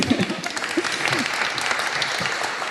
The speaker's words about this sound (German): Herzlich willkommen, ein Applaus bitte.